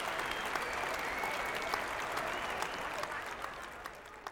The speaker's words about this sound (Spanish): ¡Empieza el espectáculo! Sofía y los espectadores comienzan a aplaudir. ¡Bravo, bravo!